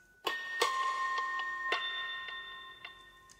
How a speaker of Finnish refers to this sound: No sen mä huomaan, että niinkin hiljainen ääni kuin kellon tikitys. Mun alkaa aina tehdä mieli tekemään, naputtamaan kaikenlaisia rytmejä siihen, sellaista polyrytmiikkaa.